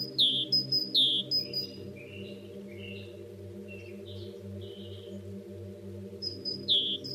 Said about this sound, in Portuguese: Daqui para ali, sempre a saltitar, de ramo para ramo, irrequieto, como todos os chapins, à semelhança de muitas outras avezinhas de pequeno porte.